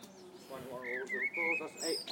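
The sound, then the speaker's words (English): A blackbird chirps close by, up in the trees, its bright whistled notes sliding and rising over a couple of seconds while people talk underneath. “It sounds like a blackbird. It's pretty close.”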